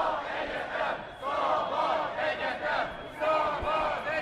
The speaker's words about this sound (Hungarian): És így gyülekeznek a tüntetők az LTBTK előtt.